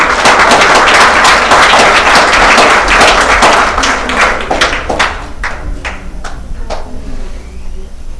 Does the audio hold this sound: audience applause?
yes